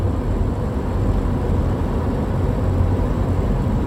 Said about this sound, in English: A big V-double fuel truck.